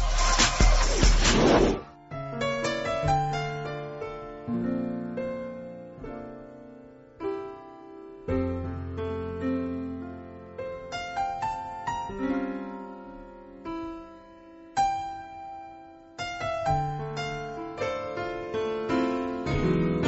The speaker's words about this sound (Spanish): Vamos a hacer una breve pausa musical. Regresamos.